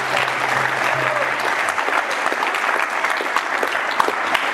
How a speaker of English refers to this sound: So please give them a huge round of applause.